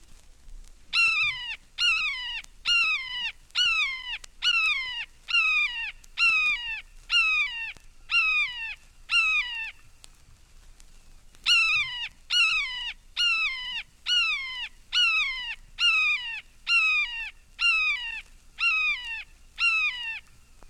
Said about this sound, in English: Red-shouldered hawk.